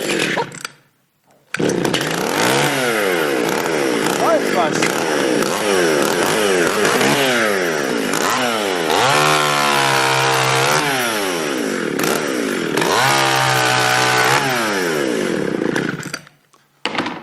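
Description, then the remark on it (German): A chainsaw, started as a test during a church service, roars continuously for about fifteen seconds, loud, its engine pitch repeatedly revving up and dropping back, with no talking over it. “Ja, wunderbar, die Säge funktioniert. Jetzt werden möglicherweise alle diskutieren und sagen, oh, guck mal, mitten im Gottesdienst eine Motorsäge und so weiter.”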